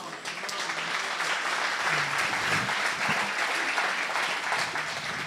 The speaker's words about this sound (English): Thanks for clapping. I'm just kidding.